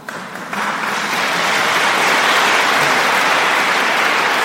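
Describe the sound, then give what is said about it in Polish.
An audience in a church bursts into applause for the Lord, the clapping swelling quickly after a brief quieter start into a dense, loud, steady roar of many hands that holds without a break. “Tak, brawa dla Pana.”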